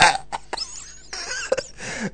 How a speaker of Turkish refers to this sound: Siz öksürmenizden duyamazsak tabii onu ayrı bir şey.